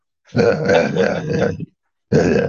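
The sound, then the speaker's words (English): A man gives a long, low, rumbling grunt lasting over a second, then breaks off briefly before starting another guttural grunt. “To me, that was just a mystery, so I would just grunt, you know,”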